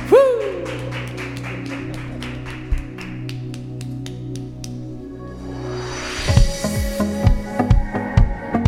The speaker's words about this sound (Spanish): Así que si quieres, vuelve a darle un aplauso grande a Jesús en tu casa.